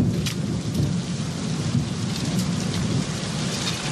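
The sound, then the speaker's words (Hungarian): Heavy rain pounds down in a dense, unbroken roar with a deep rumbling undertone, steady and loud throughout, with no voices. “Duhog az eső!”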